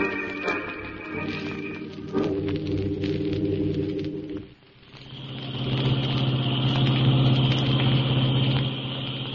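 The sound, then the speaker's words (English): A car engine hums steadily while driving around a mountain, with a brief dip in the middle before the low, rumbling drone returns louder and fuller, with no voices over it. “We're losing time driving around this mountain.”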